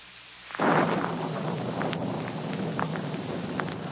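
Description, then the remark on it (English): A sudden loud crack of thunder bursts in, then rolls into a long, sustained rumble beneath steady storm noise and wind, with no voices present. “As I came closer, collar turned up against the storm.”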